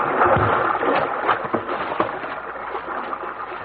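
Steady rushing river water with sloshing and splashes, broken by a few hollow wooden knocks and thumps as people clamber into the front of a rowboat. No one speaks.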